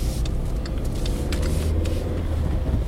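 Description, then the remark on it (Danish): A car comes up behind the speakers, then turns around and drives back; its engine is a steady, low rumble with a faint hiss of tyres on the road, holding at an even loudness throughout with no voices. “Nu kommer der også en bil bagved os, ja.”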